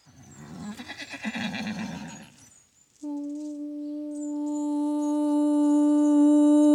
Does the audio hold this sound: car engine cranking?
no